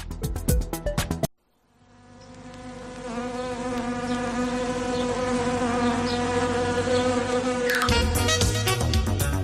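Wasps buzz in a dense, steady drone that swells and holds for several seconds, framed by brief rapid clattering hits at the start and the end, with no talking.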